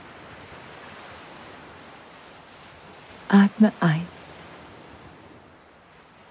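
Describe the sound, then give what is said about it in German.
Soft, steady ocean surf of turquoise water washes gently onto the shore, leaving small white bubbles as it flows back; a gentle hushing rush, while a voice briefly speaks a couple of words midway through. “Du schaust dich um, siehst das türkisfarbene Wasser, wie es sanft das Ufer umspült und wie kleine weiße Blasen zurückbleiben, während es wieder in das Meer zurückfließt.”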